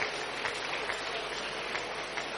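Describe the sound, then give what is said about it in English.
Steady, dense clapping from many hands clapping for Jesus, a continuous crackling wash of applause with no clear individual beats and no voices over it. “Keep clapping, keep clapping. You are clapping for Jesus.”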